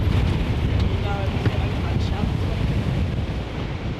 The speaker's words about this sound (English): So windy.